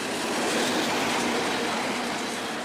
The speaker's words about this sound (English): And that's about as loud as if you were standing next to a train track and a train went by. That's about 108 decibels.